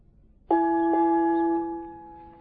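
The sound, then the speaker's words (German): A dinner gong is struck twice in quick succession, its clear ringing tone hanging in the air and slowly fading, with no voices. “Es gongt zum Abendessen.”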